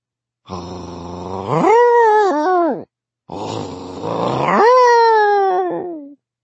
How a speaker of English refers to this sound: He had gotten Gage in his arms and was most of the way back to Mason Street when a dog began to bark somewhere. No, it didn't just begin to bark. It began to howl, its gruff voice filling the street.